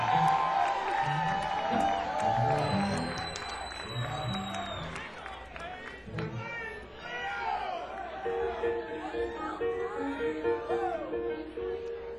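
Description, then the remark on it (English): An audience at a live music show claps and cheers steadily for about twelve seconds after a song, with scattered whoops and shouts rising over dense applause and crowd chatter. “You know, a lot of people couldn't get up here and not remember the song and still have people applaud for it, so I really appreciate that, guys.”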